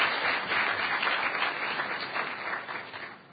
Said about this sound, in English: So thanks, everyone. Huge round of applause